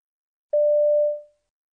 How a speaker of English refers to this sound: So, there we were in the middle of our history test, and suddenly this mobile phone goes off. Everyone laughed, except the teacher, who looked furious.